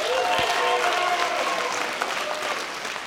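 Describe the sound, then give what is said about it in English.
An audience at the comedy show Stand Up On The Spot claps and cheers in a dense, steady burst of applause that fills the whole stretch, with a few whoops and voices rising through the clapping before it starts to ease off. “I'm your host, Jeremiah Watkins, and by round of applause, who has never seen Stand Up On The Spot before?”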